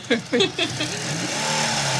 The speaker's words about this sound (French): Et vous, ça vous fait quoi alors d'entendre ce moteur vibrer? Il y a vraiment une sorte de grande liberté, on redevient enfant en fait, au volant d'un truc comme ça.